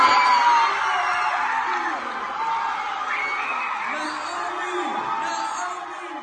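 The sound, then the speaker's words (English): A crowd claps and cheers steadily throughout, with whoops and excited voices rising above the dense, continuous applause, which stays loud before easing slightly, welcoming the winner of the 24th Chinese Bridge Competition for College Students, Kenya Division. “Ladies and gentlemen, let's welcome with a round of applause the winner of the 24th Chinese Bridge Competition for College Students, Kenya Division,”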